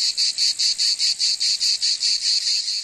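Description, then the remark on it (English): Loud cicadas buzzing in a steady stream of rapid, evenly spaced pulses, a harsh high-pitched drone that throbs about seven times a second with nothing else audible. “cicadas, those insects that look like a cross between a grasshopper and a dragonfly, which are mostly known for their extremely loud buzzing”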